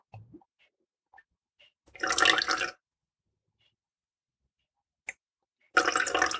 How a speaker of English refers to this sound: Just pouring in that vinegar.